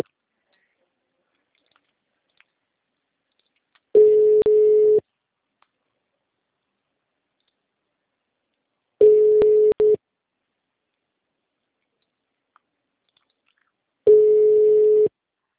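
A telephone busy signal heard when a Banco Bradesco caller tries to reach a customer's phone number: three steady, mid-pitched tone bursts, each about a second long, spaced roughly five seconds apart, with silence in between and no voices.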